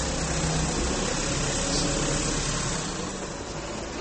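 A truck rumbles past, a loud, steady roar of engine and road noise that eases off slightly toward the end, with no one talking.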